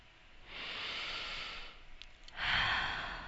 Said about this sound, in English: Begin by taking a few deep breaths.